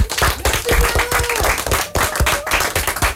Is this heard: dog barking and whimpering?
no